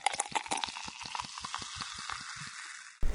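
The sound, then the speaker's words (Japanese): Carbonated fizzing from carbonated liquid used to clean the ear crackles steadily for about three seconds, a dense hiss of tiny bubbles popping with irregular sharper snaps, fairly quiet and without talk, before a brief louder rumble at the end. “お耳の中シュワシュワしてるのかな？”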